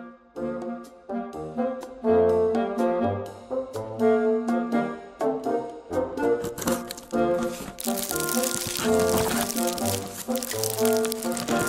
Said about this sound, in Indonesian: Umi, sibuk banget sih dari tadi. Nyiapin apaan sih? Dari tadi kresak-kresek kayak gitu. Eh, Abi. Ini loh, lagi nyiapin parsel lebaran buat tetangga-tetangga baik hati kita.